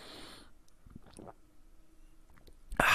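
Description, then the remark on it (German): Someone takes a quick sip of water: a few soft, wet swallowing sounds in near-quiet, followed by a sudden loud, breathy burst at the end, like an exhale after drinking. “Ich nehme noch mal ganz kurz einen Schluck Wasser.”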